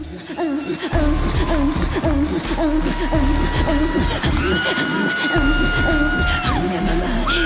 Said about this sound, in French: OK, elle a trippé par exemple. Celle que vous entendez crier, c'est Nelly Furtado qui trippe tout seul pendant que tout le monde autour dans la salle la regarde.